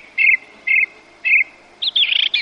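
Starlings singing over a lake: three short, evenly spaced whistled notes followed by a quick, jumbled burst of chattering phrases, clear, with no voices.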